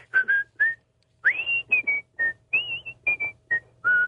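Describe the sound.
Someone whistles the Andy Griffith theme tune, a cheerful, bouncy melody in clear tones and short phrases separated by brief pauses, with a faint breathy edge and no talking.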